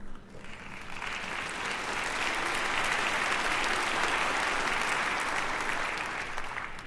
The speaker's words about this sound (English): Someday I'll preach an entire message on that for you unbelievers who didn't clap very loud.